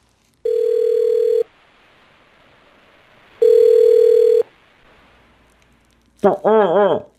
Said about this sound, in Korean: 그런 한편 원님은 임금에게 전화를 걸었다.